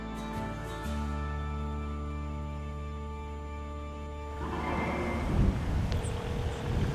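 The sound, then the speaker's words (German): A steady low engine drone of a rented boat hums throughout in Scarborough Harbor, then gusty wind and splashing water noise swell up and grow louder over the last few seconds. “Ich habe im Scarborough Harbor ein Boot angemietet.”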